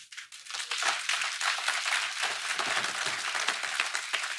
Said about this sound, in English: Thank you for clapping. I needed to breathe.